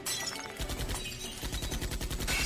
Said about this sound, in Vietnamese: Theo tiếng súng bất ngờ vang lên, kính xe hơi cũng vỡ vụn theo.